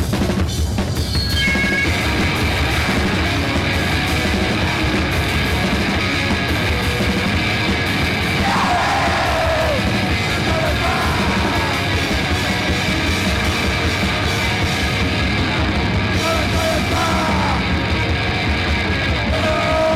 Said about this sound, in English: This is called the Yahoo song because there's no words to it, and all you people have to do is scream and act like idiots. That ought to come natural.